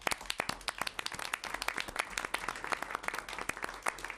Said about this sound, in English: I want to acknowledge that some of them have not gone to bed yet and been here throughout the night, and just maybe a quick shower, and I think and that goes for many of the people for articles. I'd like to give them a round of applause.